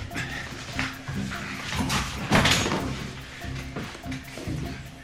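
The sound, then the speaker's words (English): The back door of a mainly vacated rented house is kicked in with a single loud, sharp crash partway through, surrounded by scuffling movement and low background commotion. “moves across the road to the now mainly vacated rented house, kicks the back door in and pulls a chair out for the wounded man.”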